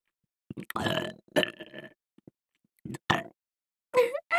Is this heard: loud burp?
yes